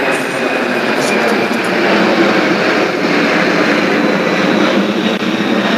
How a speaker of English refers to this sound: I'm sorry, I couldn't hear you over a jet engine that was about 3 foot from my head.